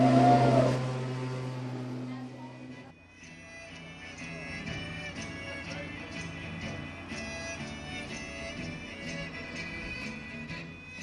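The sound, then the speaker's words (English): A small lawnmower engine on a homemade vehicle built from part of an airplane fuselage putters along with a buzzy, steady drone while driven around a parking lot at about 2 miles an hour, shifting pitch after a few seconds as if easing off, then running on evenly. “got this machine running outside that is part of an airplane fuselage, and then it has some bombs on it, and it has a really small like lawnmower engine, and they're driving around the parking lot at about 2 miles an hour and just whooping it up.”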